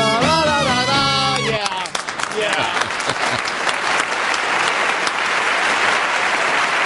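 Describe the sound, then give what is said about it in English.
A brief voice or tonal sound gives way to loud, sustained audience applause for an orchestra, a dense wash of clapping that continues steadily for several seconds without fading. “Is this where the applause cuts off abruptly?”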